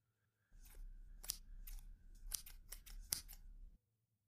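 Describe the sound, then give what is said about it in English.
Scissors snip, a quick run of six or seven sharp crisp cuts over about three seconds, with a low background rumble and no talking. “Here, I'll get the scissors and you can go to the bathroom.”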